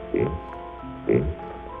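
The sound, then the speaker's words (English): A buzzy, synthetic voice from Dudley's vocoder imitates a pig, giving two short, grunting oinks about a second apart over a steady electronic drone. The vocoder made animal noises like this as a novelty for crowds at the 1939 World's Fair. “It started its public life as a silly novelty gag, making animal noises for crowds at the 1939 World's Fair. And here's a pig.”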